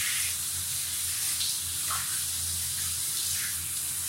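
shower water spraying

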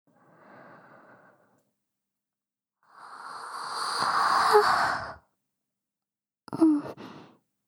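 yawn

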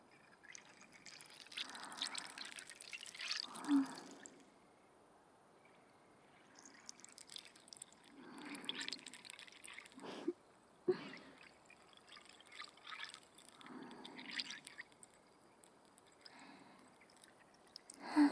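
fizzing carbonated bubbles

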